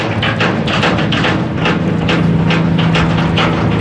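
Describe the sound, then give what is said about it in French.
A passenger boat roars past at speed on the river at Dakar, its engine a loud, steady drone with a low hum, while water rushes and splashes in repeated rhythmic bursts over the noise. “Il fonce celui-là, hein, c'est un bateau de passagers, mais ça fonce drôlement, hein.”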